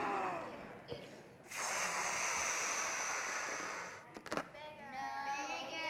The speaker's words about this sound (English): Is that better? No. No? This balloon wants more air in it, doesn't it? Do you think it wants more air? Okay, here we go.